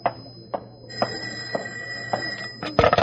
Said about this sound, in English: get the phone, will you? I'm counting receipts. Okay, boss, as soon as I wipe off my hands.